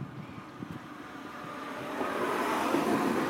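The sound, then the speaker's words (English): A bus rolls in at a stop in Orpington with a broad, low engine rumble and road hiss that swells steadily louder over a few seconds. Nobody speaks. “Is that a bus coming?”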